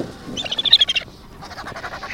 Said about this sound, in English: Perched on the right, the other vulture, stunning due to its size and black figure, makes a screeching noise as he waits patiently for his turn between a griffin vulture and an Egyptian vulture.